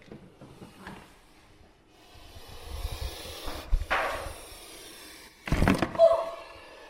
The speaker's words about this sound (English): The snake just bit the microphone. But you can see how very, very alarming that sound is, particularly if you're walking at night on a footpath without a torch.